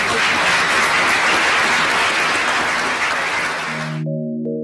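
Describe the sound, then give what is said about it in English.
A crowd claps steadily in dense, loud applause for about four seconds at the close of an LSE event, then it cuts off abruptly and a short sustained musical chord takes over. “Join us in the reception now, and please give a big round of applause.”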